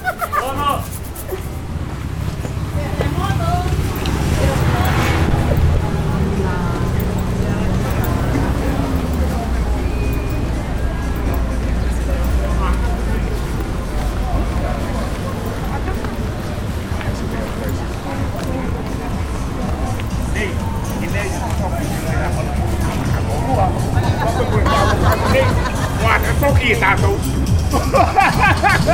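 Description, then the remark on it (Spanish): Town street ambience in Angaroa with constant pickup truck traffic, a steady low engine rumble that never lets up for the whole stretch, mixed with indistinct murmuring voices and scattered street noises. “aunque parezca extraño, gran cantidad de camionetas surcan la ciudad de Angaroa y aportan un sonido constante, así como también los perros y los cantos de los gallos.”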